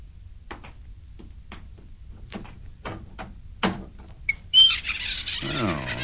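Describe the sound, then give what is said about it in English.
A series of soft, evenly spaced footsteps, then a loud, drawn-out creak of a crude door of new wood in a corner swinging open, its groaning pitch sliding downward. No one speaks. “See that new wood forming a crude door in the corner over there?”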